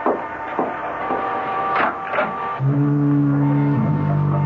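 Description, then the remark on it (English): A deep, droning lighthouse foghorn blast sounds steadily for the last couple of seconds on a misty evening, its low tone swelling and shifting slightly in pitch, after a few soft rushing, scraping noises. No one speaks. “And don't be frightened if you hear the foghorn. I like that sound.”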